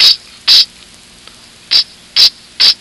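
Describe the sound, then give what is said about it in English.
Five short, sharp hissing bursts like a drawn-out 'sss', a voice imitating a snake's hiss as a sound-alike for the letter S, fairly loud with uneven gaps between them and no talking. “Notice the tiny snake that has just hatched from his shell, and he greets you with an ominous tss.”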